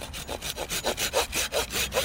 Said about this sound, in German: Beim Sägen sehen Sie, es ist ganz, ganz trocken. Das hört man auch.